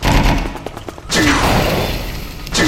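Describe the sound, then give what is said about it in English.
Loud, booming cannon shots from a video game, the player's weapon number 3 cannon fired at a wall, two heavy blasts about a second and a half apart, each followed by rumbling impact noise, with no one talking. “If I hit number 3. There's the cannon. I could go up to the northern wall.”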